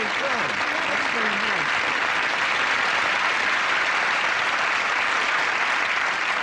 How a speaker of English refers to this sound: Mike spins her away, and they applaud one another.